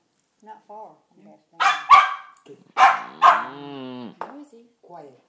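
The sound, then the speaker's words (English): A dog barks in a few sharp, loud bursts, the last stretching into a drawn-out howling bark, with faint voices murmuring softly before and after. “I'm a dog that goes, woo, somebody's here.”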